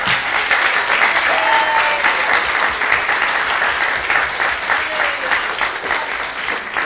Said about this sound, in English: Give them a big clap.